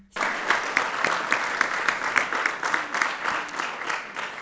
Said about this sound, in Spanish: Un aplauso para ellos.